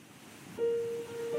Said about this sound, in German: Zum Beispiel sowas hier. Ich habe mal was mitgebracht. Einschlafmusik mit Meeresrauschen.